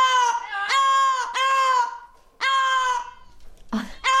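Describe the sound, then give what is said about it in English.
An Amazon parrot named Coco screams in a run of loud, harsh, high-pitched squawks as her bonded bird companion Basil is being taken home, several drawn out, repeating with short gaps between them and no voices present. “Literally, she's screaming, don't take him away.”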